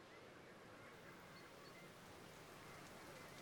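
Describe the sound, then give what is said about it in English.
Steady, soft hiss of rain beginning to fall with no cloud directly overhead, a dense patter spread evenly throughout with no voices, fairly quiet and constant from start to finish. “Rain begins to fall, and yet there is no cloud directly overhead.”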